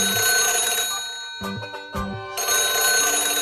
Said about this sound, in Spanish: ¡El teléfono!